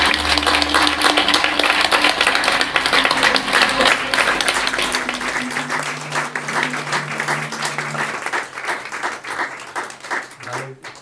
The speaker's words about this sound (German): Applaus bitte, aber jetzt!